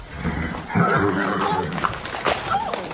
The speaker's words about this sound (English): that horse, it startled me.